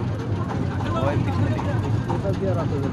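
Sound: boat engine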